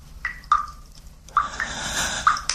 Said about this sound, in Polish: Na ucho coś mnie popędza. A to niedomkły kran. Stwierdzam i spokój. Tylko inni chcą go dokręcić.